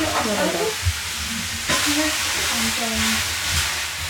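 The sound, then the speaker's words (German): A wooden spoon stirs through a quite full pot simmering down, with soft scraping and sloshing over a steady bubbling hiss, a few faint murmured voices low in the background. “Es kocht ja ein. Genau. So, nehmen wir mal so einen schönen Holzlöffel.”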